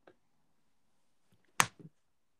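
A sharp smack of a fist punching someone's leg, followed by a couple of softer, muffled thumps. No one speaks, and the rest is near silence.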